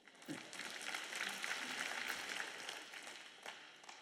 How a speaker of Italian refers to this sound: Mi sa che siete un po' stanchi oggi, state applaudendo con poca convinzione.